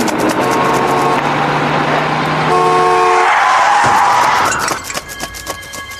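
A loud, sustained bus horn blares, shifting pitch partway through, over dense traffic noise, as a man who stumbled onto the roadway is hit by the bus, then cuts off into a brief clatter of street sounds.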